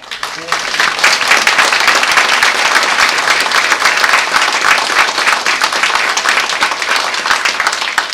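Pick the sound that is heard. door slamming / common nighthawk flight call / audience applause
audience applause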